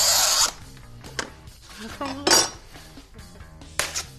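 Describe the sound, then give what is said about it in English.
A plastic sheet, scored with a hand scoring tool instead of a laser cutter, is snapped like cutting glass, giving a few harsh, crackling bursts with brittle scraping between them, irregularly spaced, while people talk quietly underneath. “If you don't have a laser cutter, you can use a scoring tool like this guy and just kind of snap the plastic like cutting glass.”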